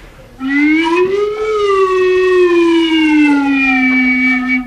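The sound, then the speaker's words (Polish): During a science show for children, a single voice imitates a siren with one long, loud wail, sliding up in pitch and then slowly gliding back down, sustained for several seconds with no other sounds. “Syrenę umiem.”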